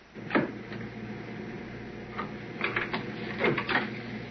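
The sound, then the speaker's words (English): A pencil is dropped while a tape is being marked for cutting on a tape machine, clattering in a few sharp, light taps, one early and a quick cluster near the end, over a steady low mechanical hum with no talking. “You'll hear him dropping the pencil.”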